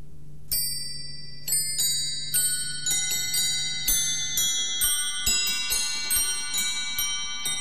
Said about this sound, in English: The clock. Small and so precise, yet embracing the entire universe, all the rocketing galaxies still red-shifting apart. But I knew one far distant day the mechanism would begin to slow.